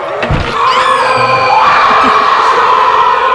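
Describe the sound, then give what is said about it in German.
Bert Klock's screaming alarm clock in Die drei Fragezeichen blares without pause, a loud shrill wail of layered, wavering high tones that rise and hold for several seconds, with a short low thump right at the start. “Bert Klock hatte einen schreienden Wecker.”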